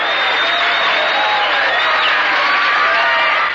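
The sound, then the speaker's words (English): A loud, dense wall of crowd noise: a big audience cheering wildly, with whoops, shrill whistles and applause blending into continuous pandemonium throughout, a canned laugh-track tape recording played for a television comedy. “Or pandemonium.”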